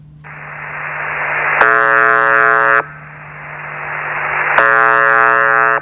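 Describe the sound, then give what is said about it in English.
The monotonous buzzing tone of UVB76, a shortwave radio station operating from sites in Russia: two loud, harsh buzzes of about a second each, separated by a pause, over a continuous bed of hissing static and a steady low hum. “It just broadcasts its buzzing tone, which is interesting, but why bother broadcasting just a single buzzing tone for 30 years?”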